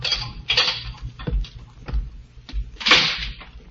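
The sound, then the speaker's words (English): The door of a prison death-house cell being opened: a series of sharp clacks and low wooden thuds spread over a few seconds, with a louder rattling clatter near the end and no voices. “Then footsteps sound in the corridor. The door opens.”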